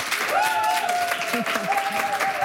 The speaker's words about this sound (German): Nochmal einen furiosen Applaus bitte.